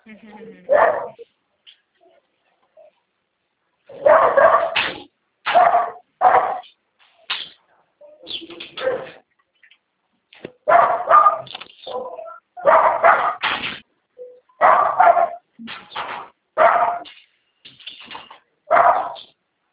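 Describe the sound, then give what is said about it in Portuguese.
Several dogs bark in short, irregular bursts, with a few higher whimpering yelps mixed in between the louder barks. “Ver se os cachorros escapam aqui, dá um trabalho.”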